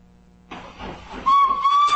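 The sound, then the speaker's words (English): A freight train rumbles in with a hissing, rushing roar, then a loud, steady whistle sounds and holds over the rolling noise until the end. “Did you ever hear of a freight train in hell?”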